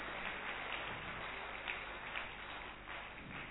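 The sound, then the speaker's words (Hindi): An audience claps steadily to thank a group brought by NIFA chairman Pritpal Singh, a dense, continuous patter of many hands at moderate loudness, with no voices standing out. “और आप इतना अच्छा ग्रुप यहाँ पर लेकर के आए हैं, इतना सुंदर संदेश आपने हमें दिया है, एक बार हम उनके लिए भी जोरदार तालियां बजाएंगे।”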